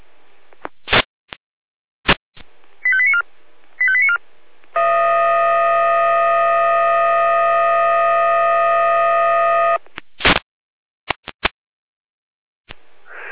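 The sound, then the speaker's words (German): A Jena fire brigade dispatch alarm for a field and vegetation fire near Stiebritz. Sharp clicks and short electronic beep bursts lead into a long, steady multi-tone alarm lasting about five seconds, followed by more clicks and brief tone blips. No voices are heard. “Jena mit Einsatzalarm, Florian Dornburg-Hamburg, Wache 3, Hainichen, Bereich Friedhof, Stiebritz, in Richtung Wald, Brandvegetation, Feldbrand.”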